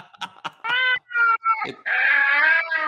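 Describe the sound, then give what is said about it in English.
A cat meows several times in quick succession, fairly loud, the last cry drawn out longest, with a few soft clicks at the start and no talking. “No way, ghost cat.”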